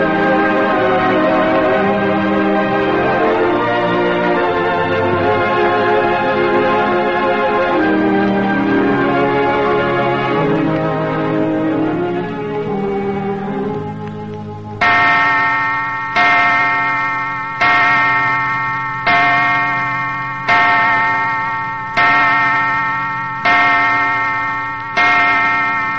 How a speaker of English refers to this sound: Clock at night in the faded elegance of Griffin Mansion, whose grim pile sits on the brow of the Los Feliz Hills, frowning down on Hollywood.